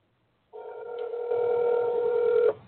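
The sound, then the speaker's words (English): A single steady ringback tone of a phone call to a guest during a broadcast sounds for about two seconds, a loud, even buzzing hum with no talking over it, then it cuts off abruptly. “Oh, let's see if she answers.”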